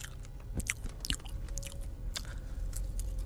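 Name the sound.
crunchy food being chewed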